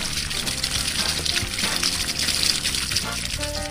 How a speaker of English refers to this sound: I water the flowers. Water the flowers.